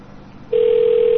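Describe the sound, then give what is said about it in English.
A phone line's low background hiss gives way to a loud, steady electronic tone as a modem picks up a call placed to a COCOT payphone number, holding one unbroken pitch to the end. “Modem. I'll snag this one.”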